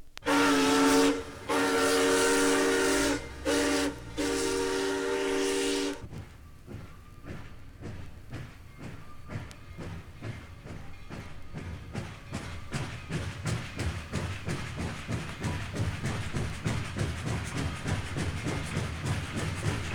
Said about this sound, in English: Now let's have some fun with a 200-ton musical instrument known as the steam locomotive. Here it is, arriving and departing on Audio Fidelity's stereo ….